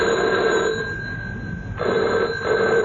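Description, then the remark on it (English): A telephone bell rings in repeated bursts separated by short pauses, a bright metallic trill, fairly loud, with no voices over it. “Hardly had I dropped anchor when the phone rang.”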